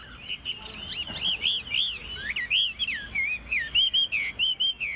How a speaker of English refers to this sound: That's local resident Li Bingzhen's song thrush.